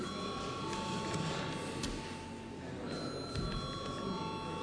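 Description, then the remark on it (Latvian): A parliament voting bell rings continuously for several seconds, a steady, bright metallic tone with sustained high overtones, over a faint murmur of background noise. “Prasa balsojumu. Lūdzu zvanu.”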